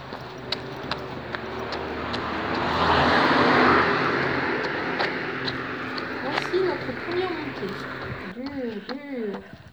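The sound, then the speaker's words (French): A car passes on a quiet small country road on a day without rain, its hiss swelling to a peak and fading away, followed by a voice speaking over faint footsteps. “Une voiture, un tracteur de temps en temps, pas plus.”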